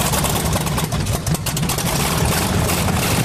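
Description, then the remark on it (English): A monster truck engine roars with a deep, throaty rumble, loud and steady throughout with slight surges in pitch, filling the whole clip without any voices. “Oh, they got a monster truck over there.”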